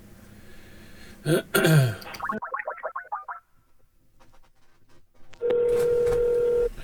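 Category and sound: signal or alarm, outgoing phone call ringing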